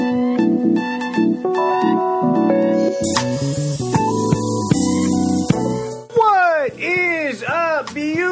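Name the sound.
cat meowing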